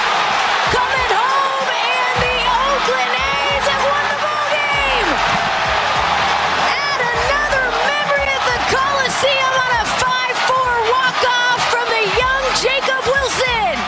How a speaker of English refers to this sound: You hear that? That crowd sounded more excited than the crowd that just clinched the playoff berth.